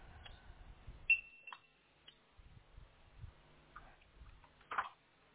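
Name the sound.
electronic device beeping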